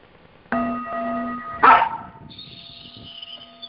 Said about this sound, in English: Quiet. No barking.